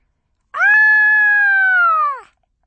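A girl riding in a pram that is hurtling downhill over bumpy ground lets out one long, high-pitched shriek of delight, loud, holding a steady pitch for nearly two seconds before dipping at the end. No one speaks.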